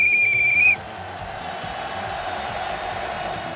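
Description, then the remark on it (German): A sharp, shrill referee whistle blast lasting under a second, with strong harmonic overtones, cuts off abruptly and leaves a steady murmur of a crowd in the background. “Beim Fußball pfeifen die auch mit einer Pfeife.”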